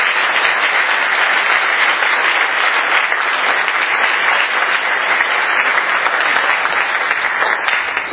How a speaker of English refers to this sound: All right, let's give James and Shadid a round of applause. And give them up.